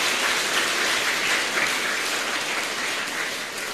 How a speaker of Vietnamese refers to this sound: Cho một tràng pháo tay qua lời Phật dạy quá hay.